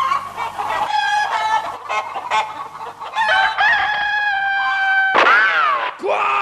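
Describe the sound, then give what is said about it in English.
A chicken squawks and clucks loudly and continuously, ending in two bursts of a rooster crowing, with no voices. “Quiet! Stupid bird!”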